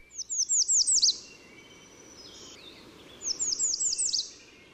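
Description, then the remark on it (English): An American redstart sings two phrases of thin, high, rapidly repeated notes, each ending in a sharp emphatic flourish, clear over a soft background hiss. “And then American Redstart is number 10.”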